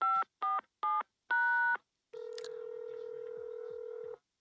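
Four quick telephone keypad tones beep in succession as someone dials to call a woman, then a long steady low-pitched electronic tone holds for about two seconds. No one speaks.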